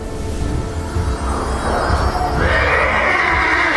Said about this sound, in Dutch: Kaelin sprak die spreuk uit zodat het paard van de ruiter steigerde.